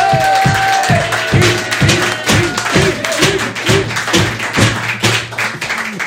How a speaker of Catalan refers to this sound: Rebem un fort aplaudiment a Quim Masferrer!